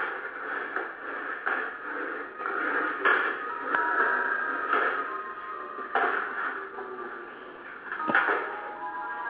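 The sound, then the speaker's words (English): Drawers being opened and rummaged through by a woman searching for something, a steady clatter of shifting objects and wooden scraping, with a few sharper knocks scattered across the stretch and no voices. “Stop fucking sneaking in the fucking drawers.”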